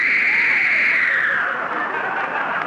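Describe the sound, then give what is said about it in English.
A long, forceful exhale after a held breath, a loud, breathy rushing of air that lasts nearly three seconds and sinks slightly in pitch as it fades, with no talking. “Don't exhale so hard, ….”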